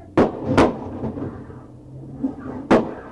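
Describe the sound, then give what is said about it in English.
Sharp, loud gunshots crack out: two in quick succession, then a pause of about two seconds before another, over a low rumbling background with no talking. Police fire on a man inside his car in Stratford. “That's four shots fired.”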